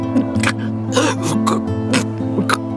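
A close, congested voice hacks out a string of about five wet, rasping coughs at roughly half-second intervals, with gurgling throat-clearing between them.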